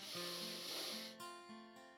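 A forceful, deep inhale through the nose as part of a 'dragon's breath' breathing exercise, a loud airy hiss lasting just over a second, with soft tonal music underneath that carries on alone once the breath stops.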